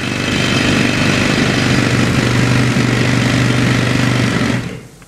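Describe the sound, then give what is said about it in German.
A loud, steady mechanical rock-drilling roar with a rapid pounding rhythm runs continuously, then cuts off abruptly near the end, during construction of a new glacier restaurant at almost 3,500 metres altitude. No voices are heard. “Bohren, Spreng und Steinschlag ist auch dafür nötig, gerade wie vor 75 Jahren, wo man am Bauen vom Tunnel auf das Jungfraujoch war.”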